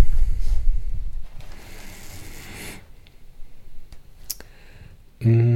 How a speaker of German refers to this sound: Also sehr ein tolles Buch. Ne? Wir blättern jetzt mal irgendwo rein und werden einen kleinen Absatz lesen.